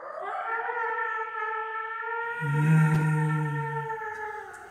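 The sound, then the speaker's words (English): Wolves howl in long, sustained, wavering tones that overlap one another, and a deeper, louder howl joins partway through before fading. No one speaks. “The wolves? The children of the night.”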